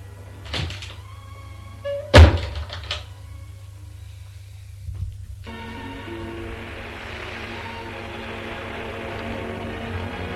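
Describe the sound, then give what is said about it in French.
A door is closed with a loud, solid thud as a woman goes out, just after a lighter knock of the latch. A steady, muffled background drone rises and continues afterward. No one speaks. “Elle va vers la porte, se retourne. Pauvre Charles, tout gâché pour une radio. Puis elle sort.”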